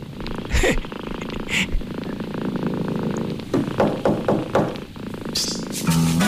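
A cat purrs steadily, a low continuous rumble that pulses gently with each breath, broken by a few brief rustling bumps and soft clicks.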